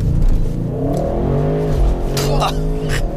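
An Audi RS6 quattro launches hard from a standstill using launch control on dry asphalt, its engine revving loudly and climbing in pitch through the gears, with brief bursts of wheelspin and exhaust noise.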